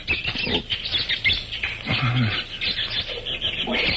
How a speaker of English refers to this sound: Monkeys certainly steamed up about something. Them see something make them afraid.